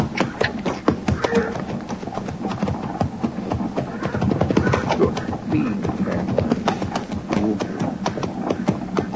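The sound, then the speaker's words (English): Horses' hooves clip-clop in a busy, steady rhythm, several branded horses moving together and approaching with no one visibly driving them, loud throughout, with faint voices in the background. “Granby's brand on those horses.”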